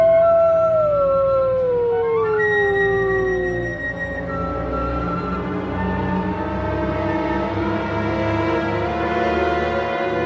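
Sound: wolf pack howling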